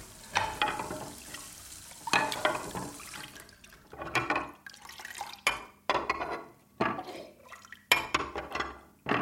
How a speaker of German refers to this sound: Habt ihr kein Spülmaschine? Für uns zwei ohne Hüt. Und nur für mich allein, das lohnt nicht. Dann hör ich die wieder abwaschen.